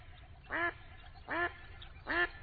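A duck quacks three times at an even, unhurried pace, each quack short and nasal, with a low steady rumble of background noise between them.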